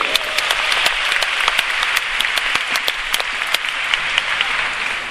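Sustained applause from a sizable audience, dense and steady clapping with sharp individual claps popping out, continuing loudly for several seconds with no talking, welcoming the general manager of Market America's Taiwan branch at the end of a two-day course.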